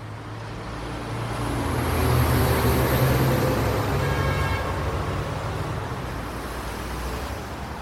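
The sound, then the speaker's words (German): Steady city traffic on the four-lane Schönhauser Allee in Prenzlauer Berg, Berlin, rumbles past, a dense wash of engines and tyre noise with a low droning hum, rising slightly as heavier vehicles pass, then settling into a constant roar. “Über vier Spuren rührt der Verkehr.”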